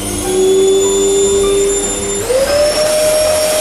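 A vacuum cleaner with a very long cord and a hose with a curtain attachment runs loudly through a house with a steady droning whine over a rushing hiss; partway through, the motor's pitch climbs and settles higher, continuing without any voices.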